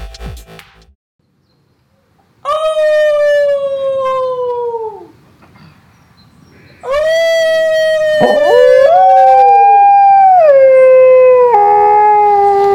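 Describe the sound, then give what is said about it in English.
A real wolf howls loudly in two long, drawn-out calls that slide in pitch. The second, longer howl wavers and bends, with overlapping voices joining near the end. “Prove it by howling live with a real wolf via your webcam.”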